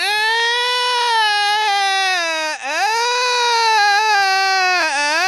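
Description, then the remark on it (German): A newborn baby cries loudly and continuously, a high, strained wail that rises and falls in pitch with a brief catch midway, alone with no other sounds. “Ene, mene, Mogelstraußen, Baby sei jetzt einfach draußen.”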